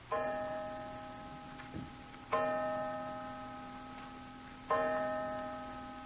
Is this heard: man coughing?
no